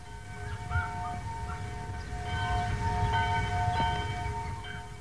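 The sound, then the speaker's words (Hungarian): A church bell rings at noon in the village of Bözödúj, with a steady, overlapping metallic hum that sustains throughout over a low rumbling background, with no voices present. “Most is minden délben Bözödúj faluban megszólal a harang.”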